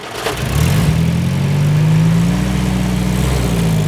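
A car engine starts with a brief rattle, then settles into a steady, loud hum that rises slightly in pitch as the vehicle pulls away and drives off. No voices are heard.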